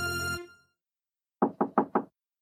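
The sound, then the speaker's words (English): Four quick, firm knocks on a door in a steady rhythm, clear, coming just after a sustained musical tone fades out into silence. “Oh, listen. Someone's knocking at the door.”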